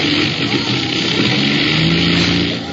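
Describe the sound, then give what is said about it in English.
Airplane engines running in a loud, steady roar, with a low droning hum that wavers slightly in pitch throughout and no voices. “There go the engines.”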